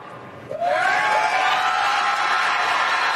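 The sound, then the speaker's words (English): A large audience at a Republican presidential debate suddenly erupts in loud, sustained cheering, with a shrill whoop or whistle rising above the roar; the noise holds steady. “It's like a Trump crowd, huh?”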